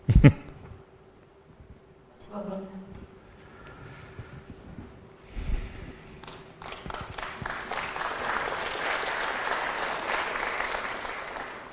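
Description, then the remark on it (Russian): Audience applause builds from scattered claps into a steady, dense wash of clapping that swells and holds loudly toward the end, with a few brief voices early on. “Вы сегодня так хлопаете мне часто.”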